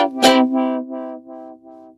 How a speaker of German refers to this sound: Da bohrt jetzt jemand. Wenn das die Handwerker hier im Haus sind, dann hört man es leider nicht nur von draußen.